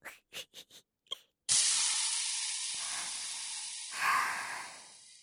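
A few quick lighter clicks, then a loud sizzling hiss as the lighter flame sears the bleeding stump of a severed penis to stop the bleeding, holding steady for several seconds and swelling briefly near the end before easing off.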